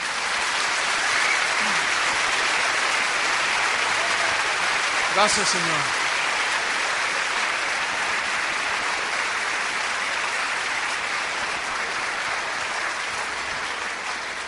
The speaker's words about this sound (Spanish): ¿No le dan un aplauso al Señor?